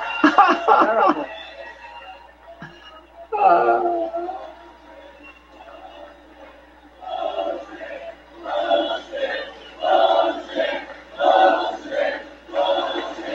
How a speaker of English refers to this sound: Oh, they're chanting bullshit. I've never heard this in my life. Thank you, everybody. A whole crowd chanting bullshit.